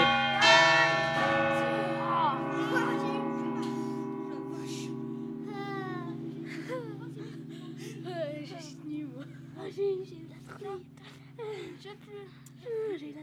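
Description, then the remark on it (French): A large church bell, the bourdon, weighing 5960 livres, 1.70 m in diameter and sounding the note C, swings and is struck once near the start by a heavy cast-iron clapper, ringing out loud and deep, then its long humming resonance lingers while people talk quietly over the fading tone. “La cloche se balance et il y a un grand poids en fonte qui tape contre la cloche. Et c'est ça qui fait sonner.”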